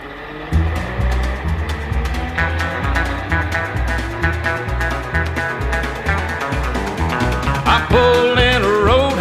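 A country song's instrumental intro plays with a steady, driving beat, a bouncing bass line and bright melodic guitar lines; near the end a wavering, vibrato-like lead slides in.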